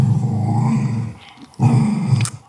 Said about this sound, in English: The dogs are trying to take her toy and she ain't having it. So she's laying there growling like a bear.